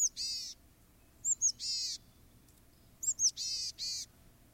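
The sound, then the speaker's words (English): A chickadee gives its familiar call three times: a couple of quick high notes followed by a buzzy, harsh dee-dee phrase, clear and fairly loud over a soft low background hum. “All three chickadees make some variation of the same familiar call.”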